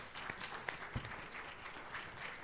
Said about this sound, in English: give Jesus a clap offering in that.